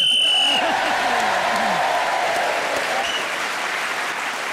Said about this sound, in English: Well, Pam Ayres, she started with the subject, she finished with the subject, she gets a point for speaking as the whistle went, and she gets a bonus point for not being interrupted.